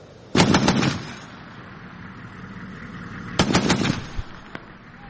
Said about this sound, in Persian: تبادل آتش میان نیروهای دستگاه مبارزه با تروریسم عراق و شبه نظامیان گروه حکومت اسلامی در جنوب غرب موصل.